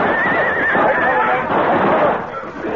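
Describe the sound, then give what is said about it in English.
Horses neigh and whinny loudly in distress as they go down under rifle fire on a canyon floor, several shrill overlapping cries rising and wavering, with a dense, noisy commotion underneath and no talking. “Our horses went down, and the 6 of us were trapped in the canyon floor.”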